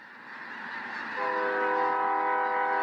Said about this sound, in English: It's snack time for thousands of snow geese in these fields of rice and wheat in northeast Arkansas.